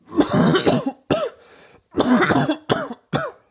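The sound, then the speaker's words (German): A person coughs hard in a rapid series of harsh, chesty bursts, about half a dozen in quick succession with a brief wheezy breath between them, loud with no talking. “Wenn der Öffentlichkeit hustet, zieht schnell alle Blicke auf sich.”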